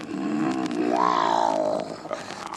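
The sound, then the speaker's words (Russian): A lioness lets out one loud, drawn-out roar, rising and then falling in pitch over about two seconds before trailing off into low grunts. No one speaks. “Солнышко село за лес, прибежала львица.”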